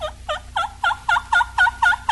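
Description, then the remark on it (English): A hen turkey receptive to a gobbler yelps in a steady series of about nine raspy, evenly spaced notes, fairly loud, with no voices over it. “This hen is receptive to a gobbler. Listen to her invitation.”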